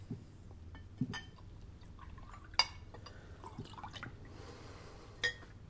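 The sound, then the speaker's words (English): Water trickles and splashes as it is poured into a glass, with a few small clinks and drips, fairly quiet against a low background hum. “Could I have a drink of water, please?”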